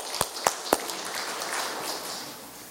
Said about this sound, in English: Would you say good news with me, please? Good news. Amen. You can clap for that.